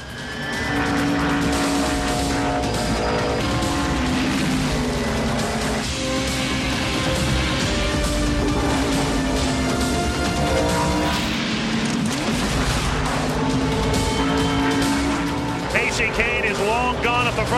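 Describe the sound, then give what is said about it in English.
NASCAR stock cars race around a track in a continuous, loud roar of engines, their whining pitch rising and falling as cars pass, with a sharper high whine near the end. Tony Stewart runs second, followed by Ryan Newman, Kyle Busch and Kevin Harvick. “Is going to be for second on back. It's Tony Stewart. Rear view mirror filled with Ryan Newman.”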